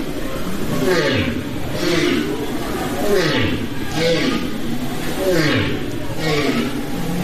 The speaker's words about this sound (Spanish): El sonido de la ballena cabeza de arco es uno de los tantos sonidos que se pueden escuchar en una exposición en la Fundación Telefónica que se titula Ecos del Océano y que nos permite acercarnos al sonido de miles de especies que viven en el fondo de